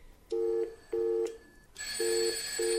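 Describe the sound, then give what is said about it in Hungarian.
Tones from an automatic telephone exchange: short steady beeps repeat in an even rhythm, then a loud, continuous bright telephone bell starts ringing over them. Clear, with no voices. “Itten felszereltünk egy automata telefonközpontot.”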